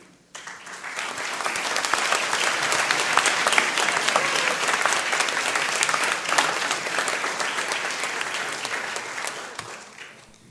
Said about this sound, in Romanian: Aș vrea să-l ridici tu, că eu nu îndrăznesc, și prezintă-l bisericii și să-l aplaudăm încă o dată.